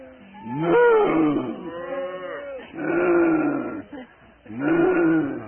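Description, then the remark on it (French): A person imitates a big cow with three drawn-out, low mooing calls in quick succession, loud, with brief pauses between them. “si je veux imiter une grosse vache, comment est-ce que je fais?”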